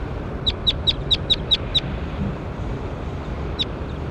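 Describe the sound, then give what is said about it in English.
A bird gives a quick series of six sharp, high chirps, then one more after a pause, over a steady low rumble of wind or background noise. “That was bird 21.”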